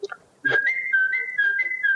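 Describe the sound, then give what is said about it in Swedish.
A boy whistles an imitation of a great tit's song: a bright two-note phrase alternating slightly higher and lower pitches, repeated about four times in a steady rhythm after a brief vocal sound. “Talgoxe.”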